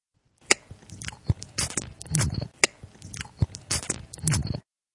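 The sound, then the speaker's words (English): Wet chewing of Captain Howard's chewing tobacco, with moist crunches and squishy smacks in a steady, repeating rhythm, heard alone with no talking. “When I'm flying high with Urkel and commentating on a shootout just like this here one, I like to chew Captain Howard's tobacco.”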